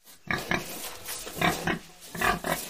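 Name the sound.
pigs grunting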